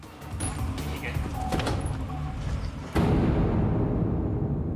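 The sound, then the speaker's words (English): A single solid thud of a police car door slamming shut as a man is bundled into the back, cutting through a busy outdoor rumble, after which a louder, steady engine-like drone continues. “Lafferty's bundled into the back of one of the police cars.”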